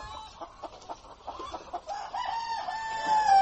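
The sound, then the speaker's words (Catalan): A hen clucks in a rapid series of short calls that build into a longer, drawn-out cackle toward the end, with no talking. “Ja la senten, això que senten és una gallina”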